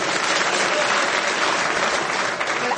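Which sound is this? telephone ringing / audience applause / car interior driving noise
audience applause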